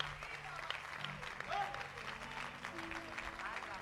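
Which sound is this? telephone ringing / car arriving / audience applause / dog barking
audience applause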